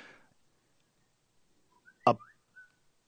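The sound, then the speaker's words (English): A short whistling phone ringtone: a few brief, clear whistled notes rising and falling, broken by a sharp thump, after a moment of near silence. “What was the whistle? I think it's my Is that your phone? Yeah, it was my tune.”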